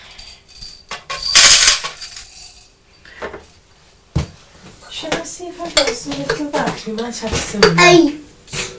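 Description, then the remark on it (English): Sweets, small hard pieces, rattle and clatter as they are poured into a container in a short, bright burst, followed by a few lighter clinks and then voices talking. “You just have to pour them out.”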